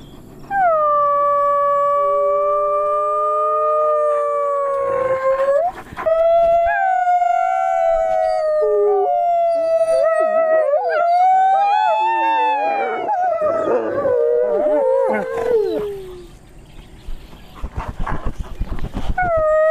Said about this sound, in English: With the train passing by, it might be a good time to get them to howl, if that works for you.